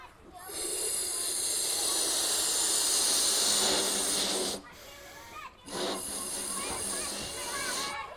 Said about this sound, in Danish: Skal jeg lige puste ballonen op for dig?